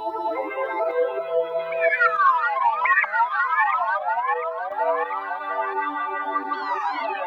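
An electric guitar played through a song's whistling synthesizer sound, its bright notes gliding up and down in rapid siren-like sweeps over sustained tones, steady and fairly loud throughout with no voices.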